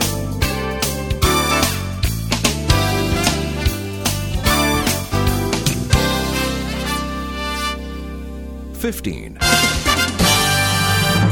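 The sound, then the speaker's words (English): A punchy instrumental radio news intro jingle from Jam Creative Productions Incorporated, Dallas, with sharp rhythmic stabs over a steady beat. A held chord swells near the end, then a final burst of hits. Loud, with no voices. “This is your news intro.”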